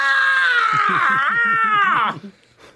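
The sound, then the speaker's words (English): A person voices a crow, letting out one loud, drawn-out, raspy caw-like scream that lasts about two seconds, then cuts off and trails into quiet. “So after a while, the crow wakes back up, and he is just cawing and screaming upon awakening.”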